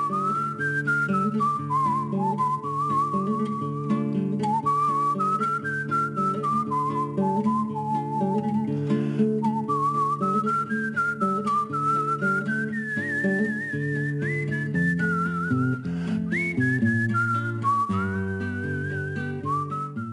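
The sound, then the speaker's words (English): A clear whistled melody glides and bends over a steady instrumental accompaniment in cinematic film music, with the whistling used as a proper instrument, carrying the tune like a flute. It stays prominent and continuous throughout, with no voices. “It wasn't used as like a kind of gimmicky little thing in a chorus. It was used like a flute.”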